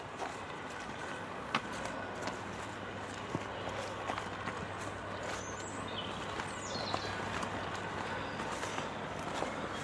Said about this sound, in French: Qu'on entend là? Bah, c'est des chenilles qu'on entend là. Donc, à mon avis, c'est les grottes pelleteuses à chenilles. Donc, ils sont en train d'évacuer ce qu'ils ont retiré du lit à la vase.